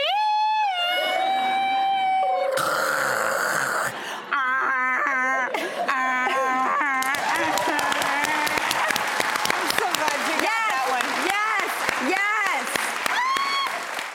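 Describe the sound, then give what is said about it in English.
A voice imitates an AOL dial-up modem: high whistling tones and warbling chirps that give way to a loud, continuous hissy screech of static-like noise, lasting over ten seconds. “It is do your best impression of the AOL dial-up sound, which I know so well.”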